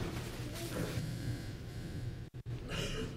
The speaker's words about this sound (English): I'm sorry if I'm sniffling a lot. My nose is running.